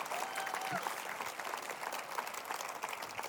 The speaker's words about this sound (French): oui, on peut applaudir, je vous libère, on peut applaudir.